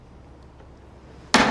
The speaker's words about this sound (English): Are you gonna bang the the hammer? Do we? Is there a? Here we go.